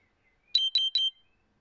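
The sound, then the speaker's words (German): Three quick electronic alarm beeps from a diabetes monitoring device, evenly spaced and fairly loud, bright and high-pitched, with silence before and after. “Jetzt geht hier mein Diabetes-Alarm los.”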